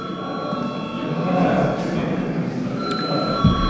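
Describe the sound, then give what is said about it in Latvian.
A bell in the Latvian parliament chamber rings continuously, calling members back to their seats before a vote, with a steady, high electric tone sustained for several seconds over a low murmur of room noise. “Lūdzu zvanu.”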